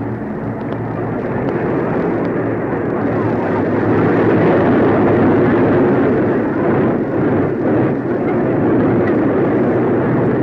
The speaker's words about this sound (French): dans un brombissement étourdissant, juste dans l'axe des Champs-Élysées, les escadrilles de l'armée de l'air franco-anglaise. Ce sont tout d'abord Morane 406, le premier avion est piloté par le général Darcourt.